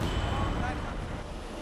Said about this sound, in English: Against the background of passing trucks on the modern Silk Road,